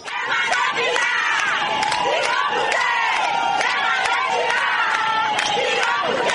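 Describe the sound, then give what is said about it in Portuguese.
Thousands of ADI party militants and supporters celebrate the party's election victory in the streets the day after the elections, with many voices shouting and cheering together in a dense, continuous roar, punctuated by sharp repeated bangs or claps throughout. “No dia seguinte às eleições, milhares de militantes e simpatizantes da ADI saem às ruas para festejar a vitória do partido”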